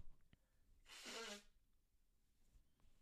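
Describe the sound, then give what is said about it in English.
A single loud, breathy honk of someone blowing their nose, lasting about half a second, with a brief low nasal buzz at its end, surrounded by quiet. “Excuse me, I got to blow my nose.”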